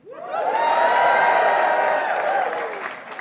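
A live audience at the Apollo Theater, at a Martin Luther King Jr. Day celebration broadcast on public radio, erupts in cheers, whoops and applause, a loud sustained roar that swells quickly, holds for a few seconds and then starts to ease off.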